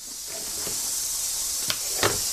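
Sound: snake hissing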